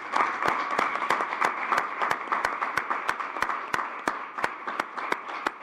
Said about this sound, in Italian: Quindi io farei un applauso per le eredi.